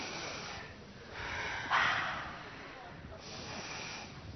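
A raspy snort cuts through a few slow, noisy deep breaths, one harsh snoring burst standing out between softer inhales and exhales.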